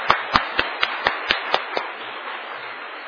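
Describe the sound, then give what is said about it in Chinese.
A group applauds to encourage two vice principals, with about eight sharp, evenly spaced claps standing out over a steady wash of clapping, then the distinct beats fade into a softer, continuous patter. “今日啊唱真好个歌，伫咱下礼拜中间，咱一个掌声，甲因鼓励吼，真感谢因。”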